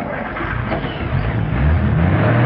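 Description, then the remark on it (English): A car drives across the street and partway up onto a sidewalk, its engine a steady low rumble that swells louder midway as it revs and climbs. No voices are heard. “Driving across the street, Lee takes the car partway up onto the sidewalk.”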